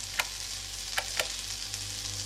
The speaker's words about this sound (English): Turn on the empty electric hob and heat up that soup.